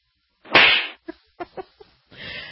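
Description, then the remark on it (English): A single loud, sharp slap to the face of French President Emmanuel Macron rings out as he greets a crowd from behind barriers while visiting a small town in France, followed by a few brief soft knocks and then a wash of muffled background noise. “who was slapped when he was visiting a small town and he was being friendly.”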